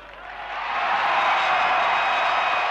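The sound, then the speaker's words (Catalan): A large audience at Barcelona's city hall gives a gala ovation after the words of Mayor Massó: sustained applause, a dense wash of clapping that swells during the first second and then holds steady and loud, with no voices rising above it. “Ovación de gala que rubrica les paraules del senyor Massó.”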